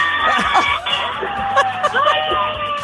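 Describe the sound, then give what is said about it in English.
A crowd of children on a school bus heading to school in the morning yell and cheer all at once, a loud, overlapping burst of excited voices and shrieks, with a tinny, phone-line quality. “Can we hear all your friends on the bus? Can they give us a little yell?”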